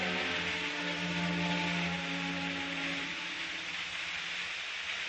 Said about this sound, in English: Then in the morning, the sound and smell of bacon and eggs frying. Mmm, sounds wonderful.